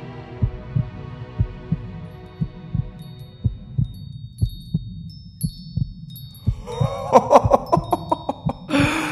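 A steady heartbeat thumps in low, regular double pulses over a soft hum, joined midway by a rising tonal swell and brief bright chimes before ending in a burst of noise.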